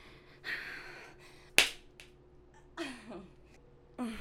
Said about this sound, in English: Okay, slap my ass harder. That's it. Make my ass the same purple as my face was on the screen.